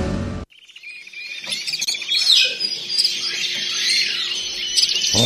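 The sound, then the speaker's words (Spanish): A parrot in a kitchen chirps and squawks almost nonstop for several seconds, a busy, shrill stream of calls, starting right after a brief abrupt cut. “Ni el loro es que está en la cocina.”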